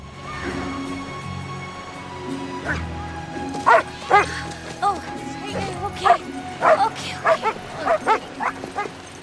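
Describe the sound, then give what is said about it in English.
Several dogs bark and yip in quick, excited bursts, with some whimpering between them, fairly loud over a soft, steady background hum, as they pull on their leads while being walked on a beach. “Charlie is falling asleep when she should be walking dogs. They pull on their leads and wake her up.”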